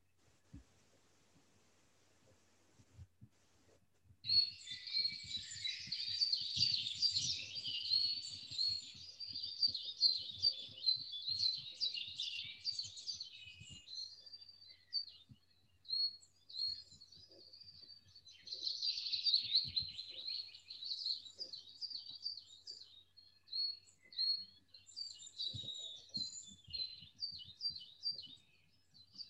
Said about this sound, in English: just relaxing in that arbor, smelling the scents, being aware of the bird noises in the garden, relaxing back in the warmth of the sun.